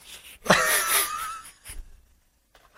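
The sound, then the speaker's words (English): A single drawn-out burp, starting with a low croak and stretching into a raspy, wavering tone for about a second before cutting off, followed by quiet and a couple of soft clicks. “That's just a burp.”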